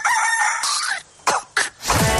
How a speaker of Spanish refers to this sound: Escucharon bien, por ahí un gallo.